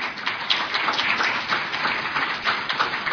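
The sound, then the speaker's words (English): Applause from a crowd for the next speaker as he enters: a dense, steady patter of many hands clapping at once, holding an even loudness throughout with no voices standing out. “He deserves a round of applause for many reasons.”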